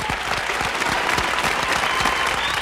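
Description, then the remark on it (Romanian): Steady audience applause for a guest girl from Israel, a dense wash of many hands clapping at an even loudness throughout, with no voices standing out above it. “Aplauze așadar pentru fetița din Israel.”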